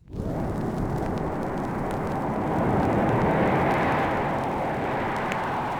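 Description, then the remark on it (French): A continuous, loud propeller-plane engine roar that drones steadily, swelling slightly midway as if passing overhead, with no voices present. “Reprenons l'avion, mes chers amis, pour traverser une fois encore la France, mais cette fois d'est en ouest.”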